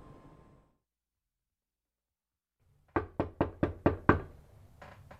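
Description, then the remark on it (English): After a moment of quiet, someone raps on a door: about six loud knocks in a quick, steady rhythm, then a couple of softer taps as it trails off. “You opened the door.”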